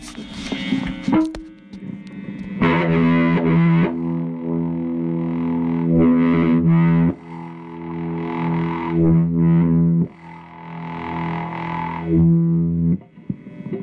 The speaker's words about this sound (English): I'm going to hit the guitar, as you'll hear, and then I'm going to trigger quarter notes with the bass guitar. I don't have many hands free, so it's just going to be a single note. Just bump, bump, bump.